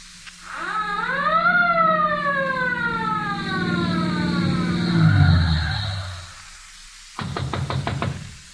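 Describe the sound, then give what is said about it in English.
A police siren wails, rising quickly then sliding slowly downward over a low engine rumble, loud; after a brief pause comes a burst of rapid, sharp knocking. “Sakes alive, what's that? It's a police siren.”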